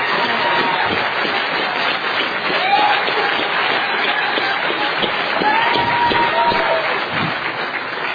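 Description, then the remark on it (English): An audience at a world convention applauds the speakers steadily for about eight seconds, a dense, even wash of many hands clapping, with a few faint whoops and whistles rising above it now and then. “How about another applause for our great speakers, huh?”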